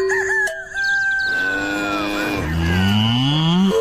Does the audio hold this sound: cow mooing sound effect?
yes